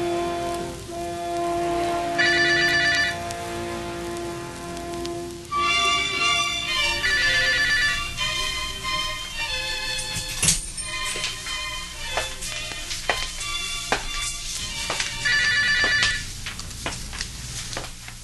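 A telephone rings in repeated bursts, its bright trilling bell sounding several times with short gaps, over a steady background patter like rain. No one speaks.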